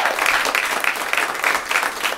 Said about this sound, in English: Applause, applause.